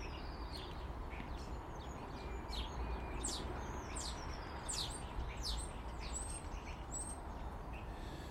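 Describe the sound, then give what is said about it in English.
A blackbird eating porridge in a garden on a sunny morning gives a rapid series of short, high chirps over a steady outdoor background hiss. No one speaks. “As Mr. Blackbird tucks into his porridge.”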